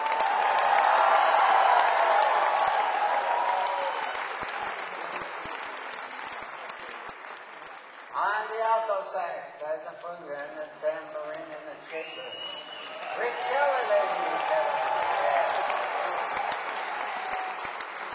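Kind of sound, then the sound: crowd, audience applause and cheering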